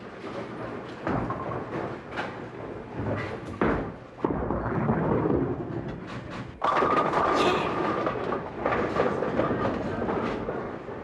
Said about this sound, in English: I like the feel of this bowling ball. Perfect fit. Now comes the best part of all. Watch me devastate the pins.